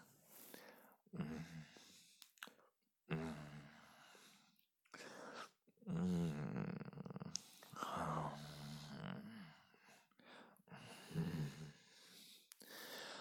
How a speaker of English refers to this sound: Oh, I know what it does when I growl like that. Vibrating against your lips.